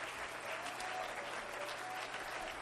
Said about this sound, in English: Let's clap our hands unto him and lift up his name.